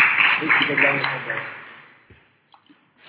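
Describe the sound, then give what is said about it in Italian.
An audience breaks into dense, steady applause that fades away after about two seconds, leaving near silence with a few faint scattered claps or clicks. “Applaudiamo tutti.”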